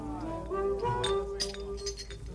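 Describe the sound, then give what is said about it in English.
Drinking glasses clink together several times in close succession, each tap leaving a bright, ringing tone that hangs briefly, with a low hum of background noise underneath. “half of my glass over there. That's my drink, man.”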